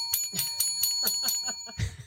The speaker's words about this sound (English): We need better bells. That just sounds so pathetic. That sounds like a bell that's like taking its last gasp of air before it goes to bell heaven.